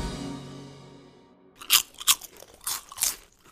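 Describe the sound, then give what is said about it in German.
A fading musical tone gives way to loud, crisp crunches of potato chips being bitten and chewed, about five sharp bursts in an uneven rhythm with no talking. “Ja, jetzt aber bitte schnell zurück zu den Chips.”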